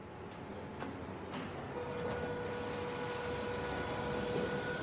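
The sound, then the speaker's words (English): A train travelling across town rumbles steadily along the tracks, a broad continuous roar with faint metallic whines and squeals rising over it, with no voices. “I lug a suitcase full of recording gear to the station, catch a couple of trains across town.”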